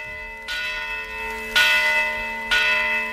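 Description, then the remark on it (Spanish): Bells of the Basílica de Santa María la Mayor y Real (Colegiata de Sar), a medieval Romanesque church in the Sar district of Santiago de Compostela, Galicia, Spain, ring in three strong, evenly spaced strokes about a second apart, each leaving a rich, humming overtone that lingers and overlaps the next. No voices. “Suenan las campanas de la Basílica de Santa María la Mayor y Real en Santiago de Compostela.”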